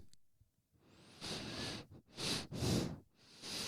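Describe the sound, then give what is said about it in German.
Several forceful sniffing breaths drawn in hard through the nose, loud, in a rough rhythm of about four noisy bursts with short pauses between, and no talking. “Ich möchte mal atmen mit meiner Nase.”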